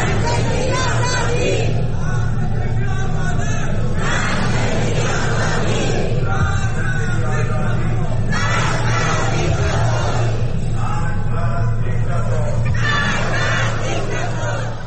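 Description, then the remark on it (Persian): A large crowd chants in loud, rhythmic bursts, voices swelling together every couple of seconds over a constant roar of mingled shouting and cheering, at a solidarity rally of Iranians in Berlin that began on the afternoon of Saturday, 30 Mehr. “این تجمع از بعد از ظهر شنبه 30 مهر در برلین آغاز شده است.”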